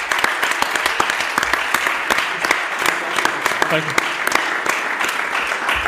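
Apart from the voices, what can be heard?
audience applause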